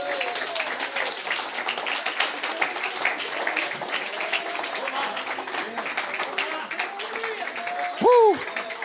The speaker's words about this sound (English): Come on, give Him one more hand clap. Honor Him.